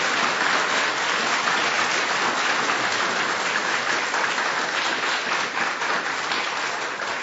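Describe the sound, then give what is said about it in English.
An audience claps steadily and warmly for the panelists, a dense, sustained wash of applause at an even volume for several seconds without any voices. “Can you please applaud the panelists for their extreme insight?”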